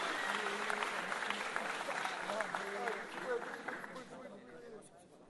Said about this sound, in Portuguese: A salva de palmas pro compositor, gente, ele merece uma palmada, vamos lá. Uma palmada!